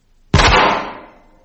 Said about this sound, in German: Ein Schuss ist gefallen? Aufgeregt, Herr Hörspielregisseur? Wieso ein Schuss, Herr Autor?